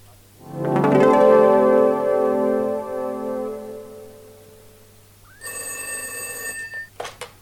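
A telephone bell rings once, its tone slowly fading, then a shrill electronic ring sounds briefly before a couple of sharp clicks like a receiver being picked up.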